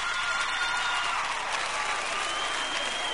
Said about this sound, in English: Let me hear the women clap that are loyal to their men, truthfully. Let me hear you clap.